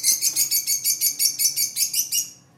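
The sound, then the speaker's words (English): Rapid, evenly spaced high-pitched chirps from one of two pet parrots kept in the Jenin refugee camp, about a dozen in a steady run, fairly loud and alone, with no talking, ending abruptly. “Amin is also raising two parrots.”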